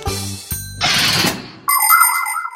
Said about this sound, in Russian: Получается, что мы как будто шьем только не иголкой, а степлером. Так оно и быстрее.